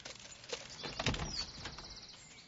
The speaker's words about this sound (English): Matt looks through the door's spy hole. Chief Rocco stands outside. Matt opens the door.